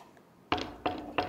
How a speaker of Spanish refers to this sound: Tocan a la puerta.